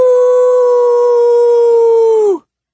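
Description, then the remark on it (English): A single long, loud howl echoes throughout a house, holding one steady, strong pitch for over two seconds, then sags slightly and cuts off abruptly. No voices, nothing else behind it. “Before anyone could explain, a howl unlike any that had so far been heard that day echoed throughout the house.”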